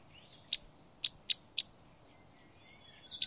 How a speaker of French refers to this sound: La bouscarde de Séti, c'est un oiseau qui est vraiment méconnu, c'est normal, il est très discret, mais son chant est très puissant aussi. C'est une fauvette aquatique qui va nicher dans les buissons auprès des berges